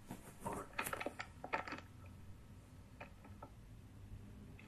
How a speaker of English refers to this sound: Somebody's either rustling papers or didn't mute themselves or both or something, because there's noise, so please double check.